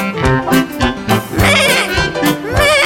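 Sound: goat bleating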